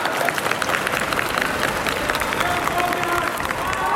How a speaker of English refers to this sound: I'm here in the main arrivals hall of the Hong Kong airport, and there's a crowd of people just sitting here. They break into cheers.